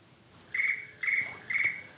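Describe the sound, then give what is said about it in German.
An electronic telephone rings in short, evenly spaced bursts of a bright, steady warbling tone, three full rings with a fourth just beginning, with no talking. “Oh, da schellt gerade das Telefon.”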